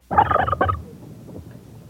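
A turkey gobbles once, a loud, rapid warbling burst lasting under a second, then trails off into quiet background noise.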